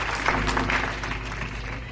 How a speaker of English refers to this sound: If you already gotten right with God, give him a hand clap of praise for his everlasting mercy.